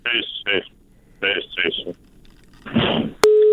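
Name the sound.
telephone busy tone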